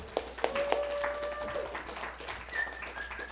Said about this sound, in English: So come on up, kids. Yeah, cheer our kids on as they come. Yay, we love you.